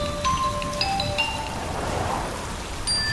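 Light drizzling rain patters steadily and evenly throughout, with a few faint, high tinkling tones drifting over it. No one speaks.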